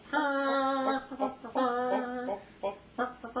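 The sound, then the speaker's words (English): A person imitates a clucking chicken, like the chickens coming down in a Link Hogthrob video game, with two drawn-out, nasal squawks, each followed by a few short, choppy clucks, loud and alone without other talk. “That was a chicken.”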